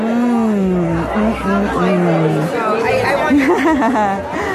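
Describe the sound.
A large crowd chatters continuously, many overlapping voices forming a steady, loud babble with a few individual voices rising above the hubbub.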